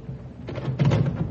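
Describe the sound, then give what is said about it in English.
A front door is pulled open: a low, muffled rumble swells into a brief scraping, rattling sound that grows louder for about half a second, with no one speaking. “I'll get the door, Mom.”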